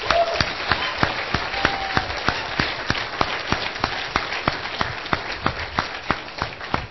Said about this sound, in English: So if you guys don't mind giving a round of applause for everybody who made it.